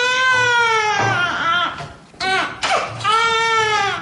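newborn baby crying

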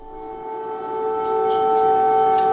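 air raid siren

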